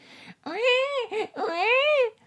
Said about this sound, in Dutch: daar ging die baby weer. Jaliza deed snel twee vingers in haar oren om het maar niet te hoeven horen.